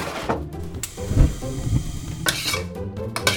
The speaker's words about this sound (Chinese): 开始执行程式，把番茄跟鸡蛋放锅子里炒一炒。